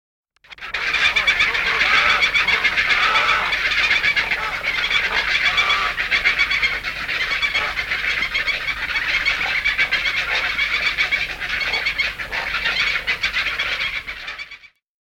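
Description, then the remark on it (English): A dense, continuous chorus of harsh, rapid calls from young herons calling at an abnormally accelerated rate, loud, pulsing steadily for about fifteen seconds with no gaps and no talking. “This is an abnormally accelerated rate of call by the young.”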